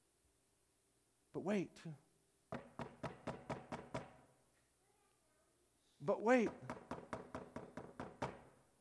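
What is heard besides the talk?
knocking on a door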